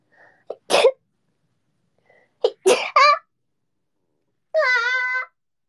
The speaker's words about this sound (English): Always have to sneeze now.